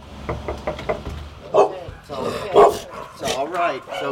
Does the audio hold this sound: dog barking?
yes